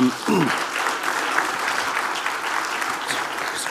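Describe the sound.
A crowd claps steadily in a dense, continuous wash of applause that holds at an even level for several seconds, with a brief voice at the very start. The audience is applauding a volunteer who came up to put on a tactical vest.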